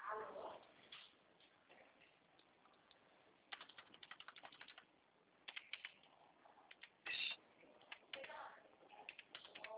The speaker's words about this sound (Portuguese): Estou digitando aqui.